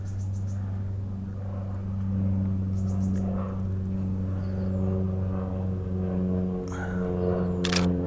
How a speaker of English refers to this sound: You can hear the small airplane flying overhead. It's one of my plans to get out and take pictures from one of these little planes.